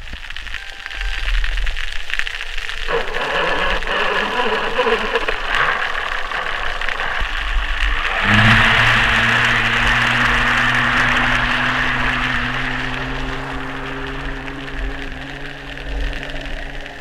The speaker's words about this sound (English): Yeah, and you know, an important thing to note about that is just one very small outboard engine.